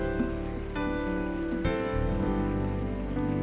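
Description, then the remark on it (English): An audience claps steadily as people come forward, a dense, continuous patter of many hands, with sustained musical tones running underneath and no clear speech. “Keep clapping as they come. Keep clapping.”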